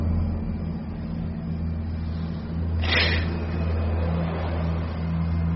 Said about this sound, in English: It's just the air conditioning.